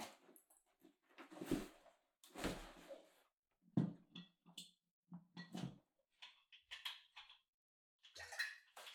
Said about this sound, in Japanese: カバンから道具を出しますので、少々お待ちくださいね。